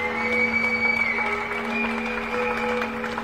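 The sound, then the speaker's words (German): A crowd claps steadily and continuously, with a sustained whistle ringing over the applause and faint cheering mixed in; the clapping, whistling and calling out are for people working in care and in hospitals during the Corona pandemic. “Das Klatschen und das Pfeifen und das Rufen, das ist für alle Menschen, die im Moment zum Beispiel in der Pflege arbeiten oder im Krankenhaus in Zeiten von Corona.”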